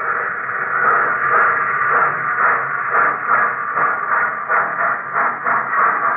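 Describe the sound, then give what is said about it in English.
Modern locomotives at Sverdlovsk, a major railroad center in the Urals, rumble in a steady, dense roar. It is a rough hissing wash of noise with faint rhythmic pulses running through it. The sound stays loud throughout, and no one speaks. “And where the icy wind whistled over the solitude of the lonely village, now there is the sound of modern locomotives.”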